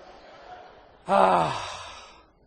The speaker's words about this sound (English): Let's say I brought in a whole box of Krispy Kreme donuts. Did you hear that gasp go through the crowd?